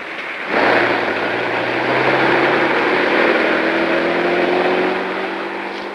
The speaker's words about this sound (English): Another car cruises slowly past,